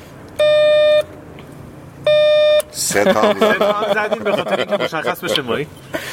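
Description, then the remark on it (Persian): Two long electronic buzzes, each about half a second, from the intercom doorbell of unit 1 of a home, with a steady harmonic tone and a short gap between them, followed by several people chattering and laughing. “بیاد بگید دم آیفون. بله خب زنگ زنگ چند؟”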